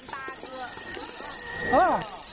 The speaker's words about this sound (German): Die vielen Fahrradklingeln.